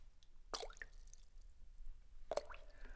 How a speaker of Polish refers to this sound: Stanął na przykład nad jeziorem, bo w kopalni było takie podziemne jeziorko. Zanurzył palec w wodzie i mówi